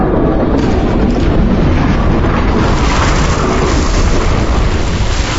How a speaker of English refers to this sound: What was that? Okay, the explosion must have dislodged the ship from the ice.